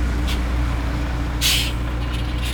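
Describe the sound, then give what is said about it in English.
A large bus idles with a steady, deep engine rumble, broken by a sharp hiss of air brakes midway and a fainter hiss near the start. No voices. “She sometimes rides her bike to school, but today she is taking the bus.”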